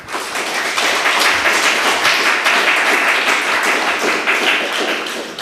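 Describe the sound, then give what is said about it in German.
An audience applauds steadily for several seconds, a dense, crackling wash of many hands clapping at once, loud and even throughout, with no voices rising above it. “Mit dem Applaus klappt schon gut.”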